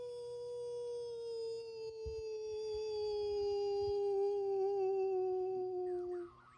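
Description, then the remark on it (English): A single long, steady howl from a human voice imitating a wolf, sustained for several seconds with a slowly falling pitch before cutting off, fairly loud. “give me a howl when you're ready to start.”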